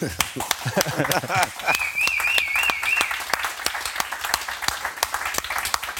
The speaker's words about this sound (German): Super. Applaus.